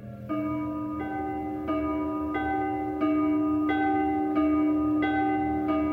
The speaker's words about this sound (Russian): На колокольню уж лезет звонарь. В колокол бронзовый громче ударь. С каждым ударом, что тает звеня, кажется мне, что хоронят меня.